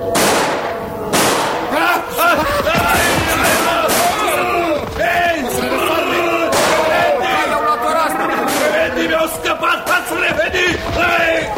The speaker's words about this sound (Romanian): Am auzit eu împușcăturile.